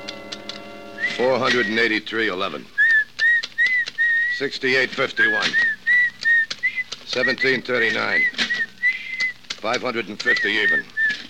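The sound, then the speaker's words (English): A person whistles a thin, steady tune in short repeated phrases, carrying on beneath a man's voice talking over it. “Look, stop that creepy whistling, will you?”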